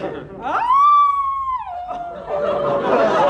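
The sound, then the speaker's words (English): A single long howl rises sharply, holds a steady wavering tone for about a second, then slides down and fades into a murky background of noise and faint voices. “But that sounded like a wolf howl.”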